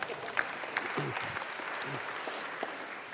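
An audience claps steadily, a dense wash of many hands with sharp individual claps standing out, sustained at a fairly even level throughout with faint voices mixed in.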